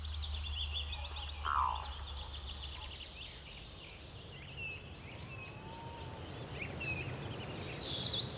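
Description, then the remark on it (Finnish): Birds sing outdoors, with thin high chirps and trills throughout and a quick run of rhythmic notes near the end, over a low steady background hum. No one speaks. “Sovellus tunnisti linnun laulusta ja kun tiesin mitä etsin, osasin katsoa runkoihin oksiston sijaan ja onnistuin löytämään linnun.”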